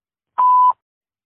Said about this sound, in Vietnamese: quý khách vui lòng để lại lời nhắn sau tiếng bíp